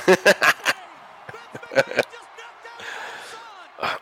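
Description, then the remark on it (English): A steel chair slams into a wrestler several times during a wrestling match, including a chest shot and an unprotected shot to the head: a quick burst of four sharp, loud impacts, then two more, and a final hit, over crowd noise and background voices. “Shane wants to give him a chair”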